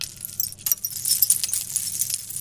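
Seashell chimes clink and rattle together in a dense, continuous jingle of small bright taps, moderately loud, over a faint low hum, with no voices.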